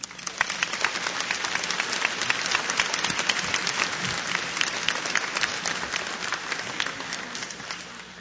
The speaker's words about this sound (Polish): Ojciec prowincjał przed chwilą nas wszystkich pozdrowił. Wypada więc teraz pozdrowić ojca prowincjała równie gromkimi oklaskami.